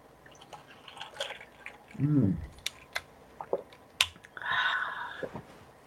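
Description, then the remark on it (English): Someone takes a swig of water: scattered wet mouth clicks and lip smacks, a single throaty gulp early on, then more soft smacking and a faint exhale as they finish. “So first, I take a swig of water.”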